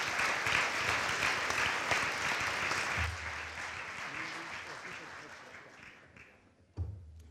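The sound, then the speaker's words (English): A crowd applauds the pitchers at a product pitch event with dense, steady clapping that gradually thins and fades over several seconds, followed by a brief low thump near the end. “Could we give all of the pitchers one more round of applause?”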